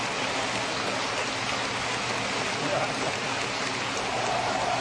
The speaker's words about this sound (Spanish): La ovación del auditorio para el actor, el connotado actor de Hollywood.